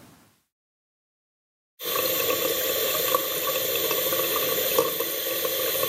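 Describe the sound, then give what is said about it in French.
After a brief moment of silence, water suddenly gushes steadily from a tap in the kitchen of a nursing home for elderly people: a loud, continuous rushing hiss that runs unchanged to the end. “Je pense que c'est un robinet.”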